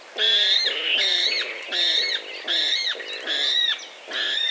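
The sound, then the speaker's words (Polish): A water rail in a reedbed gives a run of loud, harsh squeals like a pig, six strained, grating calls in a steady rhythm with brief gaps between, no voices present. “Jeśli natomiast usłyszymy w trzcinowisku kwik świni, nie zdziwmy się.”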